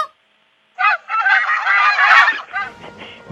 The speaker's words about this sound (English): It's a goose. Yeah! A goose. Here's what a goose sounds like, by the way.